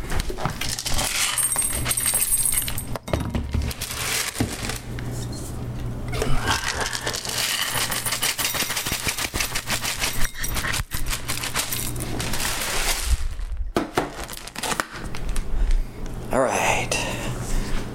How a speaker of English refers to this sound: Oh, I think the cats are hungry. So how about this? We'll listen to the sound of whining cats and to the sound of me pouring cat food.